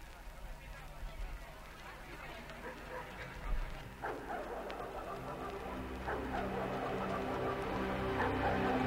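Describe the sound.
Dogs bark in short, separated bursts over a steady electronic pop backing track, with a voice also present in the mix.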